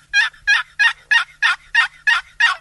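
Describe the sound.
A box call produces a run of eight raspy basic hen turkey yelps, the call hunters use to draw gobblers in the mating season, in a steady, even rhythm, loud, with no voices.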